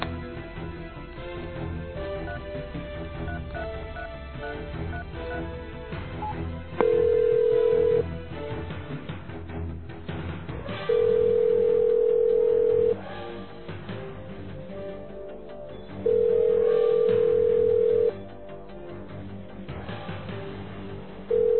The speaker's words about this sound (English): It's just ringing. He's not answering. Maybe he just doesn't have any reception down there.